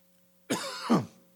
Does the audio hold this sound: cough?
yes